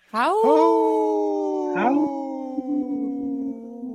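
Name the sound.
people imitating wolf howl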